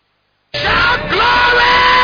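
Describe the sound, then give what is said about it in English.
A large church audience praising God erupts into loud yelling and shouting, a dense, sustained roar of many voices that starts abruptly after a moment of silence and holds steady to the end. “You are yelling.”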